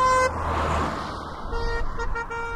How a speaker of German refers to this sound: Dafür kann man auf dem Land, so wie wir, unbedenklich mit der Hupe spielen.